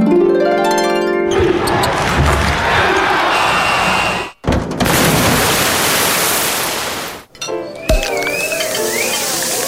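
A rapid string of loud sound effects from a sound effects machine, one after another: a rising electronic tone, bursts of rushing noise broken by abrupt cuts, then a warbling whistle. No one speaks.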